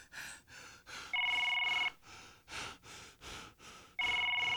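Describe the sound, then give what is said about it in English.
A telephone rings twice on an outgoing call to a friend, each electronic ring lasting under a second, with a long pause between. Heavy, rhythmic breathing fills the gaps, fairly loud. “Hope this nigga pick up the phone. Pick up the phone, son.”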